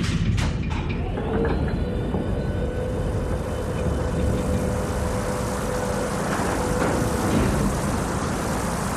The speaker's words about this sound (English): Sure. Opening rear door.